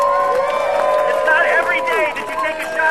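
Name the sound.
crowd applause and cheering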